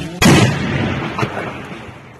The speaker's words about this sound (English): In the video, a drone can be seen as it buzzes over a makeshift bus stop. Then it fires.